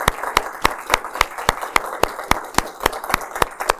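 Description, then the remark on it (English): A crowd applauds steadily for people who served in the United States military, including the Navy and Marine Corps: a dense patter of clapping with one sharp, evenly spaced clap standing out in a quick regular rhythm. Nobody speaks over it. “Could you join me, please, in a big round of applause to these individuals?”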